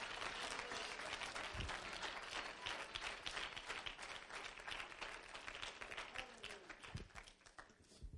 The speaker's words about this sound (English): Is this okay tonight? Clap your hands to the Lord if you're excited about what God's doing in your life. Oh, come on, somebody. Give him some worship.